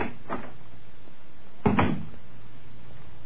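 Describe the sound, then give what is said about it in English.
A door to the Black Museum on the lower ground floor of New Scotland Yard opens: a faint latch click, then a louder creaking thud about a second later, with a quiet low hum in the background and no one speaking. “Behind this door”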